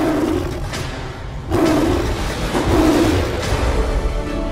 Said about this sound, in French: Mais soudain, alors que vous tendez votre bras, une énorme bête rousse jaillit dans un rugissement terrifiant.